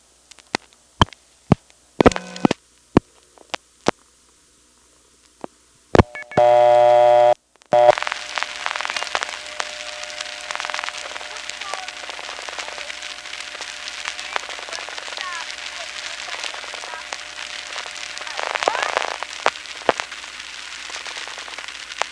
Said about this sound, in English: And here you can hear other people getting dial tones and dialing.